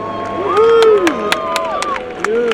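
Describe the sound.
A crowd of several hundred people on a riverbank, gathered to witness a battery-powered Harbor Air float plane's test flight, cheers and shouts, with rising and falling excited voices over a steady babble and scattered sharp claps, fairly loud throughout.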